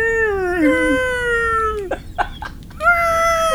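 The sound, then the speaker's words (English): Whale song: long, eerie moaning calls that glide slowly downward, broken by a few brief bursts before another sustained, rising tone returns. Fairly loud, with no talking. “Captain, I'm detecting whale song.”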